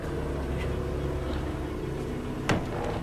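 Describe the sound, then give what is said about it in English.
A car engine runs steadily, a low continuous rumble with a faint hum, as the car reverses; a brief sharp knock cuts in near the end. “reverses the car.”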